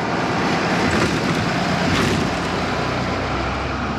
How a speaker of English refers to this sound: preparing his school bus for the day at the Tempe Union High School District bus yard.